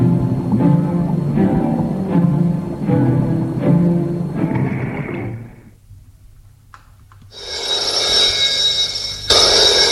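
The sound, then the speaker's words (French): A telephone rings in repeated bursts, followed by a short pause and then a loud, bright electronic ringing tone near the end. No one speaks. “Le téléphone sonne.”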